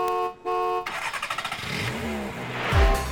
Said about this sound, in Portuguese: Trânsito. E o trânsito também amanheceu bastante congestionado na cidade.